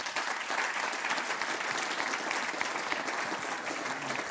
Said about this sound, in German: Applaus.